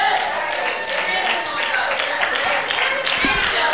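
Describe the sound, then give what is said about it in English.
A crowd claps hands together in a dense, steady wash of applause that holds at an even loudness throughout, with voices mixed into the clapping. “And clap your hand.”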